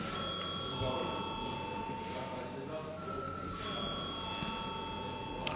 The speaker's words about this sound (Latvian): Deputāti prasa balsojumu, lūdzu zvanu.